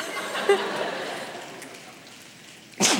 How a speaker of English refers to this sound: I should do one in beatnik style. So can you guys please snap? And I'll go, yeah.